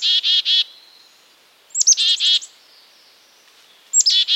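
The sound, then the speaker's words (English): A chickadee, a small grayish bird with a black and white head, gives its snappy call: a thin high note followed by a quick run of buzzy 'dee' notes, repeated in three clear bursts separated by short pauses, with no talking. “Would you like to hear this call outside your kitchen window? Then hang a simple feeder to attract this chickadee and many other birds.”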